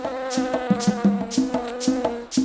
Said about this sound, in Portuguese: Fica paradinha aí. Tem uma abelha voando.